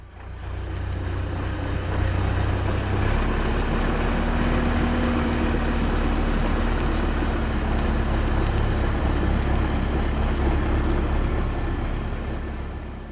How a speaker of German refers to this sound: Deswegen wird meistens schnell gestreut, wenn es draußen glatt wird. Dann fährt ein großer Laster auf der Straße und streut Salz auf die Fahrbahn.